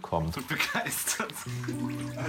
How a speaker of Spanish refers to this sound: Y acá le abrimos el chorro de agua y enloquece. Es la primera vez que esta ave acuática tiene agua para nadar.